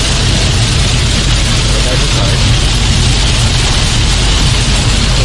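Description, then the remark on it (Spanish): Heavy torrential rain pounds steadily on a Citroën C3 car, a loud, dense, unbroken hiss with a low rumbling undertone that holds constant without pause or change. “Vaya agua.”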